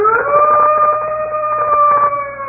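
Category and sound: sound effect, wolf howl sound effect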